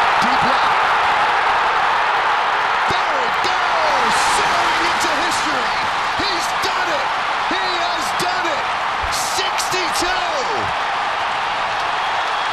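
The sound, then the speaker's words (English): A stadium crowd at a Yankees game erupts in a loud, sustained roar of cheering at a high fly ball hit by Judge, with scattered shouts and whistles rising above the wash of noise throughout. “Now listen to that crowd.”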